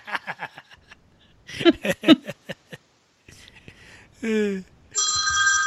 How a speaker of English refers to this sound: Hello. Phone call. Sorry. Who's calling? Freaking spam. I get like one or two calls a day.